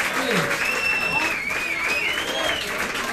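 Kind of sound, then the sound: crowd, applause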